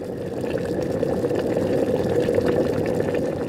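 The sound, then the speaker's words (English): About 4 cups of water pour steadily into a cooking pot of browned beef for soup, a continuous splashing and gurgling that stays even in loudness for a few seconds with no voices. “Once the beef is browned, you're going to pour about, I'd say, 4 cups or so of water into the pot and bring that to a boil.”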